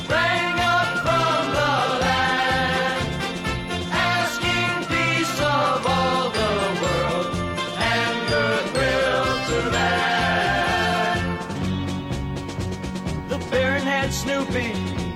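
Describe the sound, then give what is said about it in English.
Bright Christmas bells chime steadily through a loud, full musical arrangement, ringing out in a continuous festive rhythm for the whole stretch with no voices talking. “Christmas bells, those Christmas bells.”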